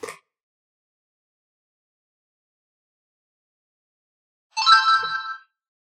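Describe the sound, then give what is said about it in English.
A short electronic power-off chime from an audiobook player, sounding when its power and play button is pressed and held for 3 seconds, rings out after several seconds of silence: a bright, bell-like burst of layered tones lasting under a second before fading away. “To turn the player off, I would also press and hold that same button for 3 seconds, and a different chime will sound.”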